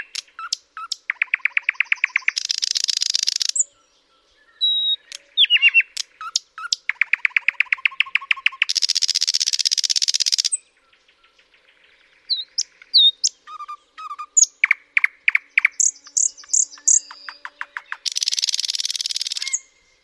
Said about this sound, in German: Und jetzt mein Liebling, der Sprosser, am Fluss Biebrza aufgenommen.